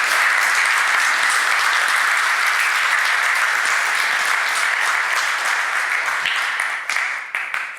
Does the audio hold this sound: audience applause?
yes